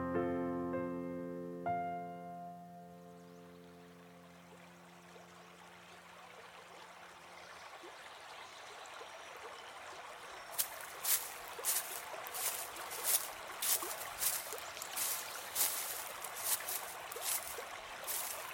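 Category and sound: nature, river water flowing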